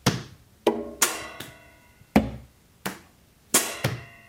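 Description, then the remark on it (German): A string of about nine hard, resonant thumps struck on a floor, played like a bass instrument, in a loose, uneven rhythm, each hit ringing briefly before the next. No voices. “Der Boden ist zum Beispiel wie so ein Bassinstrument.”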